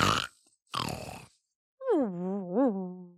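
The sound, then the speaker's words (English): Two rough, rasping snores in a cabin, then a pause before a wavering, high-pitched whimper rises and dips, sounding like a voice imitating a sleeper's snore turning into a whine. “The snore came again.”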